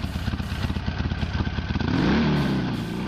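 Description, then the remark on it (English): A Japanese motorcycle engine, not a Harley, starts with a rapid, chugging idle of loud pulses, then revs up about two seconds in to a steady, rising whine. No one speaks. “The sound bullet you just played of a motorcycle starting was not a Harley. Harley doesn't sound like a Japanese bike, which is what you were playing.”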